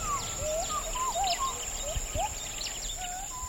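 Gibbons calling from a distant stand of forest beside burnt-away land: a string of faint, rising and swooping whoops, with scattered bird chirps and a steady high insect whine behind them.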